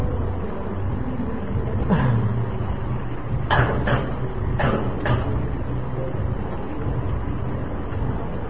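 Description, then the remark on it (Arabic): A door clatters and knocks in a few short bursts, two pairs close together, over a constant low rumbling background, with no one speaking. “شغل الخارجي حتى يضغى على صوت هذا الباب.”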